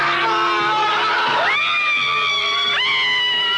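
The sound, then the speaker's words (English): Several voices scream together in long, sustained, high-pitched wails that leap upward in pitch twice. The screams are loud and continuous for the whole stretch. “Remember, in spaceship, everyone can hear you scream.”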